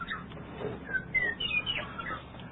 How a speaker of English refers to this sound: I guess we gotta hear from our little bird.